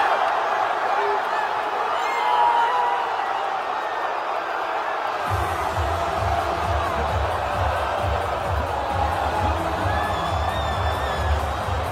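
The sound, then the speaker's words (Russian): A large crowd of Turkish football fans outside a stadium after Georgia's first European Championship match, lingering rather than leaving, fills the air with a steady roar of voices and occasional cheers, joined midway by a low rumbling hum. “И продолжаю слушать, кстати, до сих пор турецких болельщиков, которые не спешат разъезжаться.”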